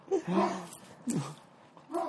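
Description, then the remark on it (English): A neighbor's dog barks outdoors, three short, somewhat muffled barks spaced irregularly against a quiet background. “You hear our neighbor's dog out there.”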